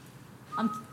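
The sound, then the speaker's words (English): A person whistles briefly, a thin, breathy note sliding into a higher pitch, just a second of tune with no talking. “If I whistle, very badly.”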